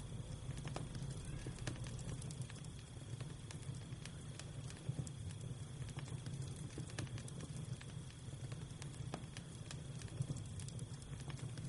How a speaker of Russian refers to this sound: Прекрасно. Огонь горит. Вы сидите рядышком, возможно, в обнимку, или же держитесь за руки. Смотрите на пылающее танцующее пламя.